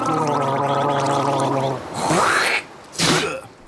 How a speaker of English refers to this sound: Quick, everyone, gargle with salt water.